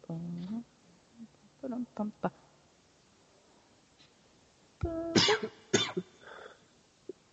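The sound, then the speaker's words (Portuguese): Several harsh coughs in uneven bursts: a few short rasping ones early on, then a louder, heavier cluster of coughing near the end, with quiet gaps in between. “Para tosse.”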